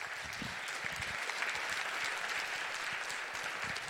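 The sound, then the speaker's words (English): An audience claps steadily for several seconds, welcoming speakers to the stage for a talk titled Homo Sapiens about open soil research, a dense, even wash of many hands with no pauses and no voices standing out. “Please give them a great round of applause and welcome them to the stage.”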